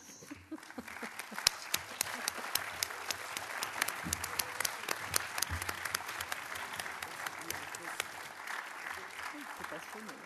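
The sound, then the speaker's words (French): A large audience at the close of the CNIPSI congress applauds the organizing committee steadily for about ten seconds, a dense wash of many hands clapping, with a few sharper individual claps standing out from the crowd. “Peut-être que le comité d'organisation pourrait venir pour se faire. Pour se faire applaudir, d'ailleurs.”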